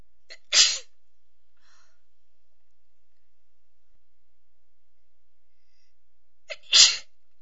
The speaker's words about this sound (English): Excuse me. I just can't seem to stop sneezing today. And I don't know why.